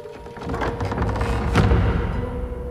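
Heavy casket doors swing shut with a single dull, resonant thud partway through, set against a steady low rumbling drone with faint creaks before the impact.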